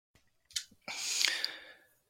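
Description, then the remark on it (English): A person clears their throat: a couple of short, soft catches, then a long, harsh, raspy rush of air that swells and fades over about a second, with no talking. “Let me clear my throat.”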